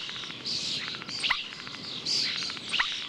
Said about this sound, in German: Denn es gibt Vögel, die täuschend echt bestimmte Laute und Melodien anderer Vögel nachahmen können. Bekannt dafür sind zum Beispiel die Stare.